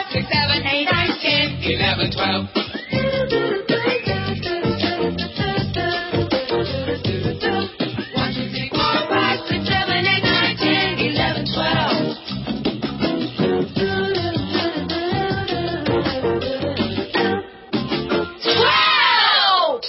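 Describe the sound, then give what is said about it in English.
A group of people yells the number twelve loudly together for the We Can Count segment of America Tonight, a dense, sustained wall of raised voices that fills nearly the whole stretch, briefly dipping just before the end. “Don't you love it when they yell, 12?”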